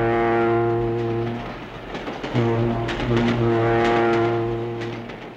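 A train's deep horn blares loudly and steadily, cuts out briefly, then sounds again, while wheels rumble and clatter over the rails.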